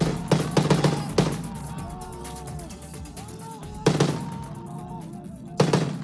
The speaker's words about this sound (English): The sound of Syrian rebels shooting down a government helicopter Tuesday in the country's northwest, where opposition activists say Syrian troops are on the offensive in the last rebel stronghold.